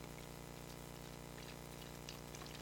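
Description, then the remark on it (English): Air being squeezed out of a water bottle, heard as faint gurgling and soft plastic crinkles scattered over a steady low hum, with no one talking. “This is how you get the air out of the bottle.”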